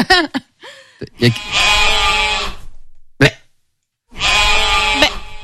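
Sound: sheep bleating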